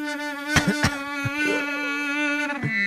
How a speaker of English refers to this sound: This sounds like a thousand bees.